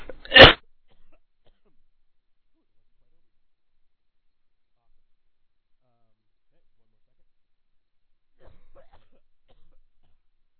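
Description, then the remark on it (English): A single sharp, loud cough right at the start, followed by long near-silence with only a faint rustle toward the end. “Sorry, had to do a little bit of coughing there.”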